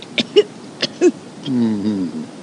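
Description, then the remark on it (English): Two short coughs a moment apart, followed by a drawn-out voiced rasp like a throat being cleared, all at moderate volume with no talking. “Cough. Again.”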